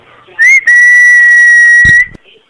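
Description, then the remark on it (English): A single loud, steady electronic beep tone of a Google Voice voicemail recording, holding one pitch for about a second and a half before cutting off, followed by a brief low thump and near silence. “Please state your name after the tone, and Google Voice will try to read.”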